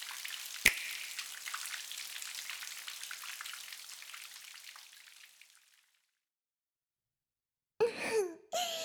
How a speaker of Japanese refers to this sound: 毎回桶でお湯を汲んでかぶるのは面倒でしょうか。なので魔法を開発しちゃいました。どうかしら。雨がお湯になって降り注げば体が洗いやすそうじゃない。